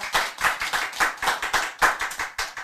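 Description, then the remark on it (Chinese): A group of people clap their hands together in a steady, brisk rhythm, the sharp claps blending into a continuous patter that fills the whole moment with no voices. “这样赞不赞？ 赞， 拍手。”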